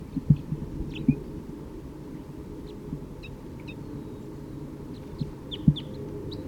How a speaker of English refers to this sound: Another male is chittering on his way down, and he has caught an orange one, bright orange.